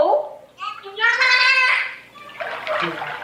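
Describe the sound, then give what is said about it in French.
The dolphin Peter imitates human speech with a squeaky, nasal, voice-like warble in a few short bursts, fairly loud, followed by a hissing, watery splash, during a morning lesson on August 18 meant to teach dolphins human language. “tout comme le professeur Sevilla de Merle, inculquer aux dauphins le langage humain.”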